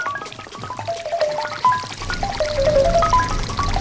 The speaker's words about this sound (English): Yeah, I hear the sound of frying bacon.